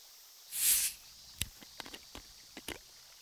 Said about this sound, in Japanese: そう、炭酸水です。この前先輩この音好きって言ってたので。じゃあちょっと後ろに失礼して、先輩の耳元でこれは注いであげますね。